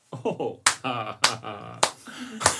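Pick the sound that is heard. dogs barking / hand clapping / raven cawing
hand clapping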